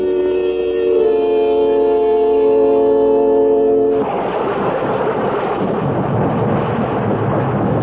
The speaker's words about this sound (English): When the rain stops, we can go out there.